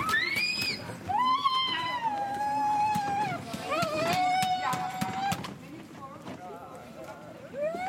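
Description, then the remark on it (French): An ambulance siren wails as the ambulance arrives, holding a long steady tone before dropping off, amid street bustle, clattering footsteps and people talking. “Une ambulance vient d'arriver.”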